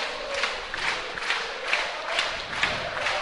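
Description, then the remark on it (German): A football stadium crowd roars steadily during a match, a dense wash of voices with regular swells that pulse every half second or so, like rhythmic chanting or clapping. It sounds loud and continuous, with no individual voice standing out. “Oh, und das Publikum ist da.”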